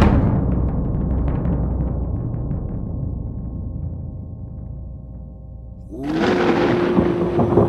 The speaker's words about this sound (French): Le tonnerre et l'éclair, yeux des yeux, tornade des tornades, orage des orages, ciel noir qui traîne, orage magnétique, zigzag et puissance céleste.